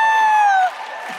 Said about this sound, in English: Maybe you could just sort of percussion. I don't know, maybe you could just clap.